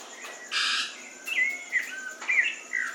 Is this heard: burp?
no